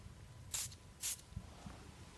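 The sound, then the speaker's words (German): Two quick hissing bursts from a popcorn-scented fragrance spray bottle, fairly loud, about half a second apart, followed by faint handling sounds. “Ja, sprüh mal auf.”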